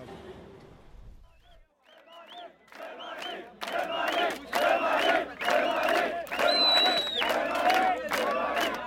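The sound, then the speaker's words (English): A huge crowd of migrants, young men, women and children, chants in loud, rhythmic bursts right up against the shut metal fence on the Serbian-Hungarian border, many voices shouting together in a steady repeating beat after a quieter, murmuring start. “Listen to them chanting right up against the metal fence that slammed shut on the Serbian-Hungarian border. Huge crowd.”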